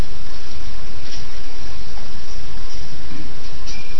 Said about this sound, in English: For some time he was very quiet. The train was just moving on and on and on and on.